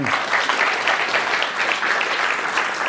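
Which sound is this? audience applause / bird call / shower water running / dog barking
audience applause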